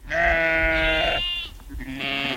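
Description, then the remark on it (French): Sheep bleat loudly in a park in the Lot department east of Cahors, France. Ewes that have just given birth and their lambs call to each other in overlapping cries: a long wavering bleat, a brief pause, then another higher call. “vous entendez ces brebis, elles viennent de donner naissance à leurs agneaux”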